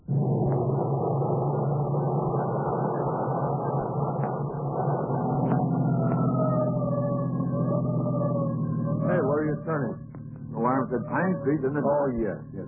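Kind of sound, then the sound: signal or alarm, siren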